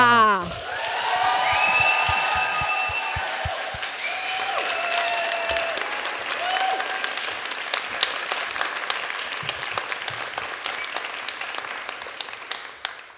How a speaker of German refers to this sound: Das sind 10-Punkte-Applaus und ich würde euch bitten, jetzt mit einem 10-Punkte-Applaus unsere Featured-Artistin auf die Bühne zu klatschen.